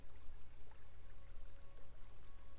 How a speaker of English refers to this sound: Hear the waves gently lapping on the sand.